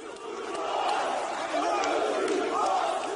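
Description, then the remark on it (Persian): A crowd of hundreds shouts protest slogans in unison after a Turkish police raid on the offices of Zaman newspaper in Istanbul, chanting that the media will not be silenced; a dense, sustained roar of many voices that swells and surges rhythmically without pause for about three seconds. “صدها تن پس از حمله پلیس ترکیه بر دفتر روزنامه زمان در استانبول نعره می کشیدند که رسانه ها خاموش نخواهند ماند.”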